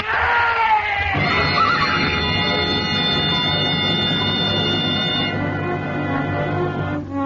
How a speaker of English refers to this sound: The horse stumbled. Horse, he stumbled. That trail's for mules, not horses.